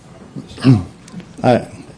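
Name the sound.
dogs barking loudly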